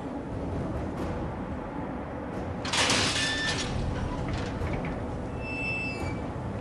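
A heavy door slides open with a harsh scraping burst and metallic squeal, followed by a few high creaks, over a steady low rumbling background. No one speaks. The door is opened on order to check a foul, musty smell.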